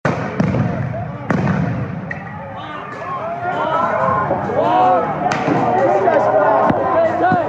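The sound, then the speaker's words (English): Several sharp, booming blasts go off at irregular intervals as Portland police fire stun grenades and pepper balls while ripping apart protest barricades, over a continuous din of shouting and crowd voices. “After only a few hours, police came charging from around the corner, ripping apart barricades and firing off stun grenades and pepper balls.”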